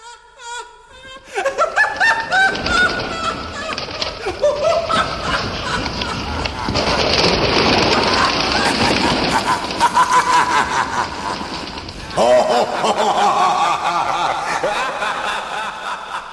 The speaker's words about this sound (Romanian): O pasăre care râde. Îmi amintesc. Este o cucabura, pe numele popular pescărușul australian. Seamănă cu un vultur negru și are un cap cu mult prea mare față de corpul său. O pasăre cu un râs aproape uman.